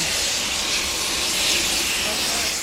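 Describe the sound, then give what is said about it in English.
A loud, steady rush of hissing steam, a broad roaring whoosh that stays constant with no voices or other distinct sounds, as a steam train pulls into platform 3B at Lincoln Station and passes underneath a footbridge in a big cloud of steam and smoke. “So we've just been on the footbridge and the steam train has just passed underneath.”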